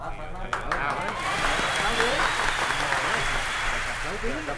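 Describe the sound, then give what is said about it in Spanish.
A crowd breaks into sustained applause, a dense wash of clapping that swells quickly and holds steady throughout, with murmuring voices mixed underneath. “No sé, pero creo que hay que aplaudir.”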